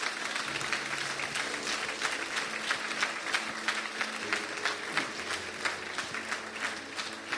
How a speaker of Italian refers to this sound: Facciamo un applauso al nostro Dio, al nostro Dio.